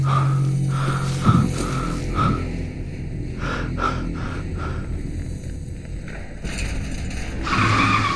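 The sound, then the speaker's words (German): A car brakes hard at a red traffic light with no other cars on the road, its tires letting out a long, wavering screech that lasts several seconds, loud, with engine rumble underneath and no one speaking. “Obwohl keine anderen Autos mehr fahren, bremse ich bei roten Ampeln ab.”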